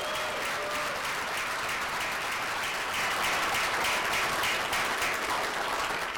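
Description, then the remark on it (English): Sustained applause from a large audience at a primary election speech, applauding the speaker's opponent, fills the whole stretch, a dense, steady roar of many hands clapping at once that stays loud and even from start to finish. “Let's have a round of applause for our opponent.”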